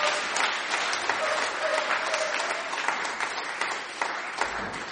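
An audience claps steadily for several seconds, a dense, even patter of many hands at a fairly constant loudness, with a brief faint murmur of voices underneath.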